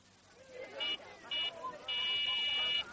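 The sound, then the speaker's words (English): A walkie-talkie call buzzer sounds in three high-pitched bursts: two short buzzes followed by a longer sustained one, loud over a low background murmur. “It's your talkie-walkie thing.”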